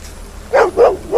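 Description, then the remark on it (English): A dog barks three times in quick succession, the sharp barks coming at a steady rhythm, fairly loud, with no one talking over them. It is a dog that someone is being ordered to shoot. “He fails because he won't shoot a dog because Davos is a fucking asshole.”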